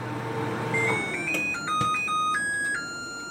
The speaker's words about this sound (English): Here's someone on YouTube demonstrating the sound of her new LG microwave.